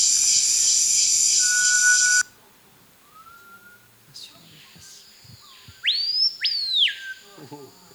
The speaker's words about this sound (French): Bon, c'est le coq de roche. Bon, pour ceux qui ne connaissent pas. C'est le Pio Hurleur de son vrai nom français et le Paille Paillot de son nom local. Ouais. L'Hippogus vociférans de son nom scientifique.